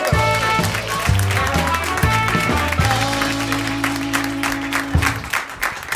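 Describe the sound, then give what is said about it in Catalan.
A theatre audience at Teatre Neu applauds loudly and continuously to welcome guest David Arnau to the sofa of the show Jugada Mestra, dense clapping while a band plays a brassy, sustained entrance tune underneath, the applause tapering slightly at the end. “No, vale, que se'n sorri amb aplaudiments al Teatre Neu per rebre el sofà de jugada mestra David Arnau!”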